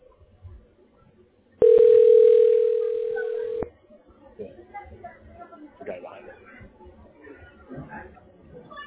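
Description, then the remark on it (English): A loud, steady telephone dial tone, heard as a call is transferred to a tax relief specialist, hums at one mid pitch for about two seconds, cuts off abruptly, and gives way to a low murmur of background chatter. “This moment I'm dialing the special.”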